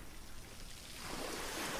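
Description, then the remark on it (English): A steady wash of water that swells louder partway through, like a wave rolling in onto the shore, with no voices. “The sound of the water.”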